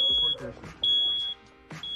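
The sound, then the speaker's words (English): A carbon monoxide alarm underneath a house emits sharp, high-pitched electronic beeps, three in a row with short gaps, fairly loud over a busy background of muffled voices and clatter. “From a carbon monoxide alarm that kept going off.”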